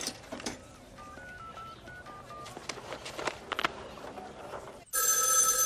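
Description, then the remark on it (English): A quick run of touch-tone beeps from a payphone outside a shopping mall being dialed over faint outdoor bustle, then a loud telephone bell abruptly starts ringing inside the Zielinski home and keeps ringing with no one picking up. “Inside the Zielinski home, no one answers the phone.”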